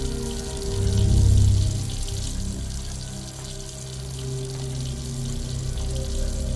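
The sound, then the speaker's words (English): A sink faucet runs steadily, a continuous rushing splash of water that swells briefly louder near the start before settling into an even flow. “Lucinda turns off the water and leans against the sink.”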